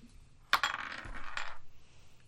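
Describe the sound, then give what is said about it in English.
A sharp clack followed by about a second of rattling, skittering clatter as dice tumble across a hard surface and settle, rolled for a perception check and coming up 19. No one speaks. “That is a 19. Thank God one of us is rolling well.”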